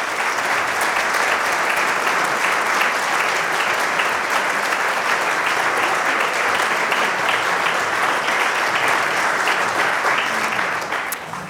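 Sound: thunderous audience applause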